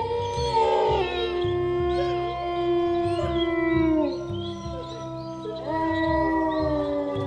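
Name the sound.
wolves howling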